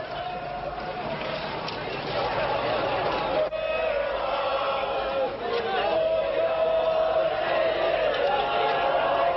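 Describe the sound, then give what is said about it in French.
A large, agitated crowd roars and shouts continuously, with many voices clamoring at once and scattered sharp cries and bangs in a dense, chaotic din, as thousands of students and an angry crowd clash violently with soldiers in the centre of a capital, trying to hold military convoys back at the square. “de violents affrontements avaient commencé d'opposer les soldats aux milliers d'étudiants rejoints au centre de la capitale par une foule en colère qui a longtemps tenté de contenir les convois militaires aux portes de la place.”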